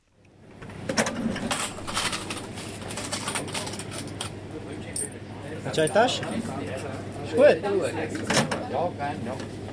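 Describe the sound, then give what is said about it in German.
A cash register drawer clatters open and shut with sharp mechanical clicks and a jingle of coins, under steady conversation and a low background hum in a small family-run Turkish grocery shop in Brugg, Switzerland. “Kasse auf, Kasse zu.”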